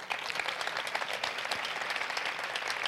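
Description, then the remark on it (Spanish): Steady crowd applause at a concert, given for the Virgen de la Paz, fills the whole stretch, a dense wash of many hands clapping at once, fairly loud and even with no voices standing out. “Como está ahí dentro y nos oye, vamos a hacer más ruido todavía. Un aplauso para la Virgen de la Paz, por favor.”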